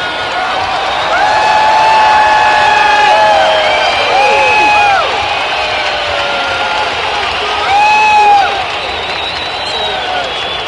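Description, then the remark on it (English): A large concert crowd shouts, screams and whoops continuously while a performer tries to sing, with rising and falling cries layered over dense background noise, loud and sustained throughout with a few sharper peaks of cheering. “Stop letting off fireworks and shouting and screaming.”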